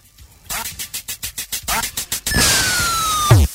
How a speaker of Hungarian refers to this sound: Szeretem ezeket a 8 bites hangokat, nem annyira tudom, hogy a kacsa hápogást, azt hogy oldották meg.